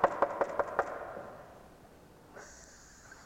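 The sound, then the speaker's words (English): Five quick, evenly spaced knocks on a door ring out fairly loud, then fade into quiet with a faint high-pitched tone near the end. No one speaks. “And they'll knock.”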